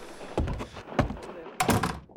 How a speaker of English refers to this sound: Close the door